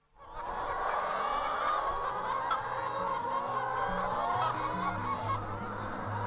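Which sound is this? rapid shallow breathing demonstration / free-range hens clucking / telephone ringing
free-range hens clucking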